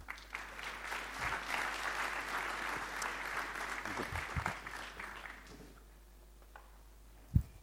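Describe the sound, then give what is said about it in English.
A South African audience claps steadily for an Australian speaker for about five seconds, a dense patter of many hands that then tapers off into quieter background noise, ending with a single sharp thump. “I've got South Africans applauding an Aussie, so that can't be bad.”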